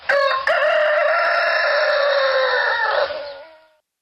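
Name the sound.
rooster crowing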